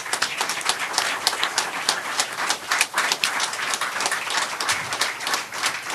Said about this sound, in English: Would you please give a round of applause for the people of the People's Forum?